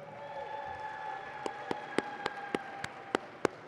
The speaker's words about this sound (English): And how many teens do we have in here? Can you raise your hands? How many teens? How many? Let's applaud the teens.